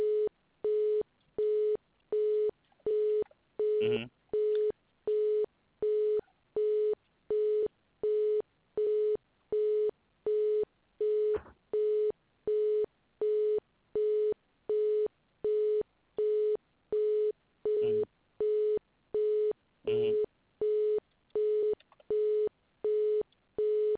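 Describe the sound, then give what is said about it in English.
A steady telephone busy signal beeps on and off in a fast, even rhythm for the whole stretch, loud, with a few faint clicks breaking in here and there; the line is busy because the modem is turned off. “Yeah, so it is busy because the modem is turned off.”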